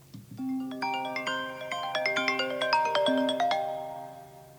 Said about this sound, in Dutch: En we beginnen met waarschijnlijk de nieuwe standaard ringtone. Die heet Bezinning.